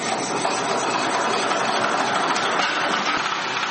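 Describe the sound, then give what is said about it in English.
A generator engine runs steadily, giving a loud, continuous droning rumble with a gritty mechanical buzz that holds constant throughout, with no voices over it. “When people bring generators for repairs, I touch the parts and feel them”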